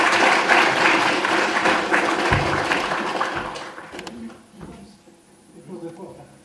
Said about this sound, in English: Okay. Thank you very much. Everyone clap. Very good.